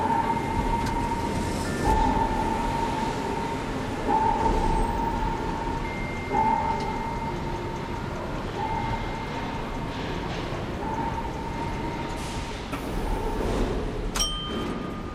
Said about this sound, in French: Quartier des arts et métiers, nous entamons notre plongée vers le monde des cités obscures, plusieurs mètres sous terre, sur le quai de la ligne 11 du métro, avec l'écrivain et scénariste Benoît Peters.